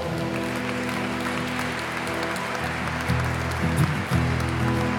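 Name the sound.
applause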